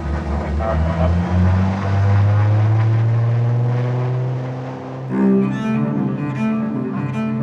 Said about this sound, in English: Okay, all pressure's come up. But do you want to take your headset out here? I'm sitting on the passenger side of a small twin-engine airplane.